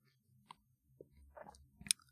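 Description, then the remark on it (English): Quiet sipping from a drink: soft wet mouth clicks and a gentle slurp, ending in a brief sharper smack of the lips. No one speaks. “Here, have another sip.”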